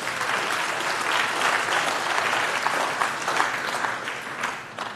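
Steady applause from an audience fills the whole clip, a dense wash of many hands clapping at a constant, fairly loud level with no voices standing out.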